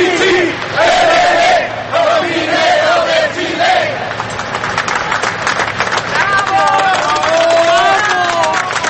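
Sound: crowd cheering and chanting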